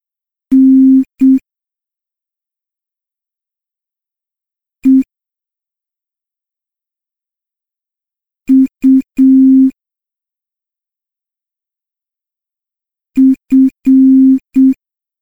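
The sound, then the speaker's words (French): Morse code beeps in a steady, low-pitched tone: short dots and longer dashes form three separate clusters with a lone blip between them. The beeps are clear and loud against silence. “Ceci est un code Morse.”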